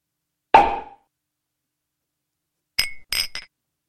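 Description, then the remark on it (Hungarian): A sharp champagne cork pop rings out alone, followed after a pause by three quick bright clinks of glasses touching, all clear with no talking. “virtuális pezsgődurranással és pohárkocintással köszöntjük és ünnepeljük.”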